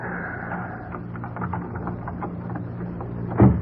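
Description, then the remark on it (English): A skeleton key scrapes and clicks in an old door lock at 1035 Russell Place: light, irregular metallic rattling, fairly quiet, ending with a louder clunk as the bolt gives and the door is opened. No one speaks. “Well, you got that door open quick enough.”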